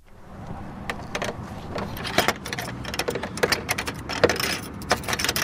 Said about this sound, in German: drückt die Tür zur St. Georg-Kapelle auf.